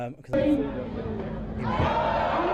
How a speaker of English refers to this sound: What we're hearing is the World Black Pudding Throwing Championships. Lots of consternation from the crowd.